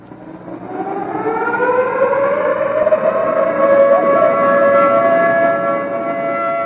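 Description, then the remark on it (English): A civil defense air raid siren sounding a national exercise alert warning for Canada winds up from a low pitch into a loud, steady wail, its harmonic tones rising and then holding with slight wavering. No voices are heard. “You have just heard the sirens sound an exercise alert warning for all Canadians.”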